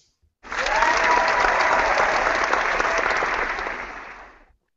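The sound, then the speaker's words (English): A studio audience breaks into loud, sustained applause, a dense wash of clapping that holds steady for about four seconds before tapering off. “So with that in mind, sir, are you ready to fire up this studio crowd?”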